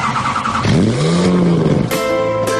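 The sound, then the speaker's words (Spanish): A car engine fires up and revs in an advertisement for Autolíder, its loud, throaty pitch sweeping upward and holding before shifting to a steadier, higher tone. No one speaks. “En Autolíder arrancamos.”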